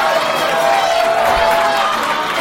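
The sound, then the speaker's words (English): A live audience gives a loud, sustained roar as comedians Sinbad, Sebastian and Jimmy Carr are introduced, a dense wash of cheering and shouting voices with no gaps or clear individual words. “Listen to this fucking roar!”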